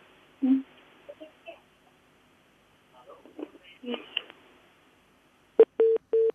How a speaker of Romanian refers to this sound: Iată, numărul de telefon a fost format.